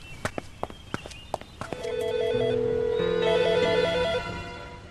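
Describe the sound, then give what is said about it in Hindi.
A telephone rings with a warbling electronic tone for a couple of seconds, following a few sharp knocks or hoofbeat-like clops at the start; no one speaks. “खुदा करे ताहिर का फोन हो।”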